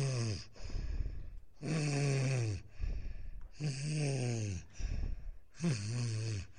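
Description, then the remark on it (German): Loud snoring of pirate captains in their ship's cabin, in a steady rhythm: three long rasping inhales with guttural rumble, separated by short breathy exhales, with no talking. “Und wenn Kapitän Stanislaus und Kapitän Mick Messer sich abends glücklich in ihre Einzelkajüte zurücktoren, dann störte sie das Schnarchen nicht, denn es war ihr eigenes.”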